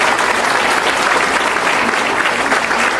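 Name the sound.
audience applause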